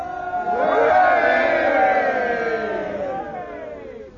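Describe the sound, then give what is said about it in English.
A ship's crew of men cheers together on command in a loud, sustained roar of many overlapping voices, swelling quickly and then slowly fading over about four seconds. “Now give a cheer, you men. Hip, hip.”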